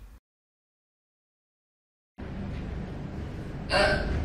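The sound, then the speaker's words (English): After a stretch of silence and a low background hiss, a single short, loud burp-like gulp erupts near the end, abrupt, with no one talking. “When you burp, sneeze,or make a rude noise, you can say, 不好意思。”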